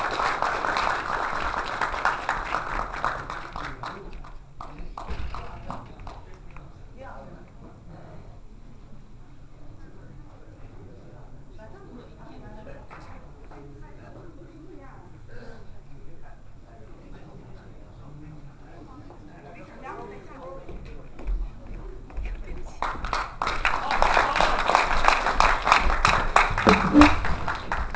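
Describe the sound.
An audience breaks into steady applause welcoming a teacher to give a lecture; it fades to scattered claps and murmuring voices before a second loud round of clapping swells near the end.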